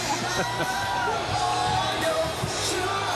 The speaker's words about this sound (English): We're looking at cheerleaders. The crowd's so excited.